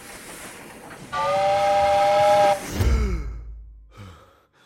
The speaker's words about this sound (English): Only her voice isn't there. Only a sound that pierces right through you, chilling you to the bone, scratching at your soul. A whistle.